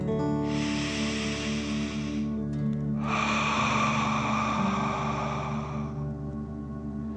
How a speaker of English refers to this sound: let's take three more deep dragon breaths. Remember to breathe in through your nose, filling up your chest and belly, and then out, pretending you are breathing fire. Deep breath in and out.